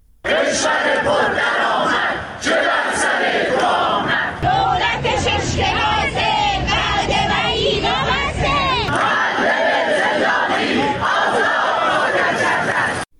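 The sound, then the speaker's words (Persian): A crowd of retired civil servants at a weekly 'Protest Tuesdays' gathering in Iran chants loudly and steadily in unison. Many voices shout together in rhythmic bursts, with a brief stretch of mixed, overlapping shouting in the middle before the chant resumes. “در ایران گروه‌هایی از بازنشستگان کشوری در ادامه تجمع‌های هفتگی خود موسوم به سه‌شنبه‌های اعتراض در چند شهر از جمله کرمانشاه، عراق، اهواز، سنندج، همدان، یزد و شیراز تجمع کردند.”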